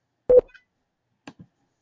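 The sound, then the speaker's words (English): A single short, loud electronic beep with a steady mid-low pitch, a GoToWebinar notification tone marking someone joining the conference, followed after a pause by two faint, brief blips. “You will no longer hear beeps until someone else joins the con.”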